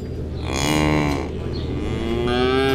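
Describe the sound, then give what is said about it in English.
Cows moo in long, low, drawn-out calls that overlap one another, one lowing fading as another begins, loud and steady with no talking. “These are real cows.”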